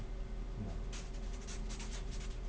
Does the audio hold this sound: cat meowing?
no